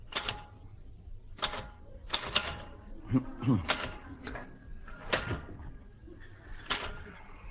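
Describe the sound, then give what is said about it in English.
Slow, irregular clacks of typewriter keys, each a sharp mechanical strike spaced out unevenly, with a brief muffled vocal sound partway through; someone is typing out invitations in the 1954 radio comedy Hancock's Half Hour. “Haven't you finished typing out those invitations yet?”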